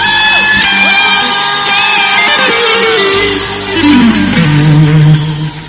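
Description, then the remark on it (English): A large church crowd in Lagos shouts, whoops and cheers together to praise the Lord in a loud, sustained roar, with individual yells rising and falling over the dense mass of voices. “Let us know if the Lord is good by your shouts this evening.”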